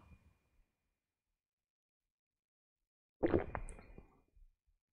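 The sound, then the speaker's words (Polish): After a long stretch of near silence, someone takes a sip of a drink, a short wet slurp and swallow, followed by a faint trailing gulp. “Zobaczymy, co tam pisaliście, a tymczasem się nawodnię. Wasze zdrówko.”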